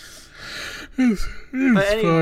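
yawn

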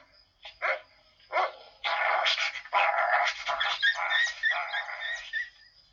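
small dog yapping

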